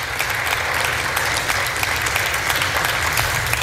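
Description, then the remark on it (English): Democrats in an audience clap steadily, a dense wash of many hands that holds an even, loud level throughout the few seconds with no voices over it. “Now, right here, he realizes the Democrats are the ones clapping, and he's scowling at them.”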